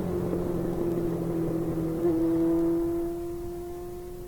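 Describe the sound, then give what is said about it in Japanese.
A motorcycle engine roars steadily as it is ridden fast, revving higher partway through with a rising whine before easing back into a droning hum, the ride ending up on the Tama River embankment. No voices are heard. “めちゃめちゃバイクで飛ばしていたらいつの間にか多摩川の土手に出ていた。”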